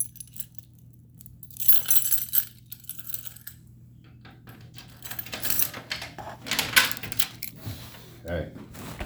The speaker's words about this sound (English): Excuse the keys, y'all.